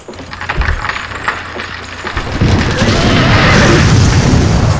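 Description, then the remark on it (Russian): Demolition of a section of the old white-stone Kremlin wall at Borovitsky Hill on the Moskva River bank in Moscow, dismantled so a new Kremlin can be built in parts: a run of clattering knocks and thuds, then a loud, sustained rumbling roar of masonry crashing down that swells and holds to the end. No voices. “Дядя Кузя, вместо того, чтобы строить, тут стену Кремля ломают.”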